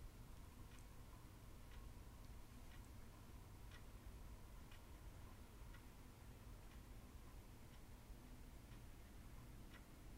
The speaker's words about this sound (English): I think you're going to be able to hear the clock, so I think I'll take that down.